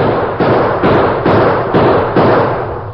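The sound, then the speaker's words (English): A rapid volley of about five loud gunshots, fired by a sheriff and toward men across a street, at a steady rhythm, each sharp crack trailing into a reverberant rumble that overlaps the next. No voices. “At the same time, the sheriff began shooting.”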